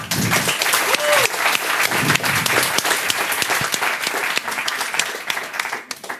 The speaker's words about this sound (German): Einen tobenden Applaus bitte.